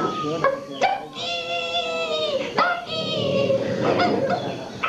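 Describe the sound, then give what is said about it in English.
A large dog, a Labrador, whimpers and whines in long drawn-out tones broken by a few sharp barks, fairly loud throughout. “This must be her ladyship's Labrador.”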